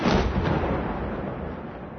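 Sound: explosions and gunfire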